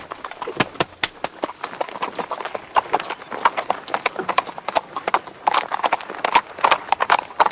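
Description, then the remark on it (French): Horse hooves clip-clopping steadily on a hard surface, a dense run of sharp knocks with an uneven walking rhythm and no voices. “Votre cheval a beaucoup d'esprit, mais mon lourdeau a du bon sens.”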